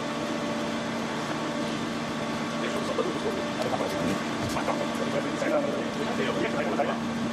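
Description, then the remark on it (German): A Porsche car engine played backwards: a steady, droning mechanical hum with sustained tonal layers, continuous, with faint scattered clicks and flutters running through it. “Und jetzt machen wir das, was tausende von Porsche Leuten hauen da, einer der besten Autos, aber umgekehrt.”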